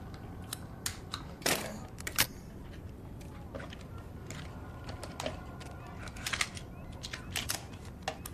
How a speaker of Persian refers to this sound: چیزی نیست پسر جون، ببین فقط یه دوربینه. هی پسر میخوای ازت عکس بگیرم؟